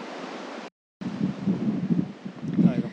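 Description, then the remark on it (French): Strong wind gusting on a large beach at Perros in Brittany, France, a loud, steady roaring rush with low buffeting rumbles on the microphone, cut off by a brief moment of silence before the wind resumes. “Je vous retrouve très vite dans un endroit un peu moins venteux, j'espère, pour un nouvel épisode du podcast.”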